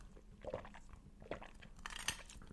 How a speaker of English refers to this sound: So I'm going to sip my glass here.